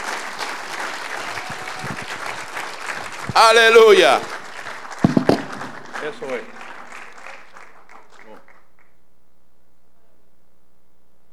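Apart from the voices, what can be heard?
audience applause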